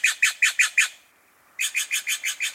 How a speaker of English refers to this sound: Hear this bird? It's a jay, and it's blue. But this is a Steller's jay, not a true blue jay with a capital B.